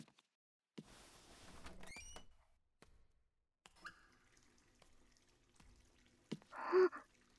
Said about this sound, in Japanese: 湯船は溜めながら、とりあえず最初はシャワーで温まるの。先にお風呂、溜めるね。